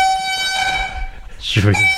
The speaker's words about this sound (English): Hey, that's right. We bought a mother flipping air horn. Play that shit.